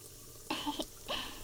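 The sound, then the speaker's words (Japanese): Shower water runs in a steady, soft hiss as someone's hair is being washed, broken by two short, brighter bursts of splashing as the spray hits something. No one speaks. “目の前にシャワーあるんで 前かがみになってください。頭洗ってあげます。”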